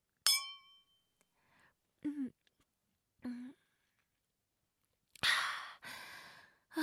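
Two glasses of alcohol clink once in a celebratory toast over a home-cooked meal, a bright ringing chime that fades quickly, followed by a couple of soft swallowing gulps and a long, breathy satisfied sigh.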